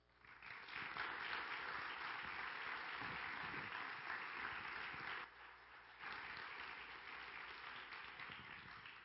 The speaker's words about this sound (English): So my heart this morning is just that you would give some applause and appreciation for these folks that have applied themselves to this process.